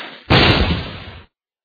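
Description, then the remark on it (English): Firecrackers being lit go off: one sharp, loud bang after a faint hiss, the crackling rumble fading over about a second before cutting to silence. “I'm lighting firecrackers.”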